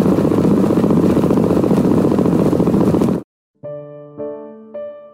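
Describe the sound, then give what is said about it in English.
A black-capped chickadee's heartbeat, so fast its beats blur into a loud, steady, motor-like buzz for about three seconds. It cuts off abruptly, followed by a few sustained harmonic musical tones. “I don't mean to be judgy, but I feel like it would suck to have the heartbeat of a black-capped chickadee, like drinking a truck full of 5-hour energy drinks every single day of your life.”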